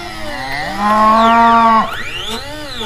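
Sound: cows mooing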